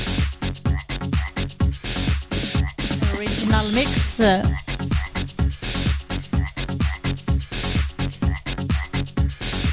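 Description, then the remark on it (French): A dense chorus of toads at Vassivière croaking in rapid, overlapping pulses, loud, with a few higher warbling calls rising briefly in the middle. “J'ai super nous mix en direct des bruits d'épouvante avec les crapauds de Vassivière.”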